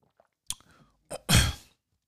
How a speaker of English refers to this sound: Let me take a swig real quick of this water. Agua. H2O.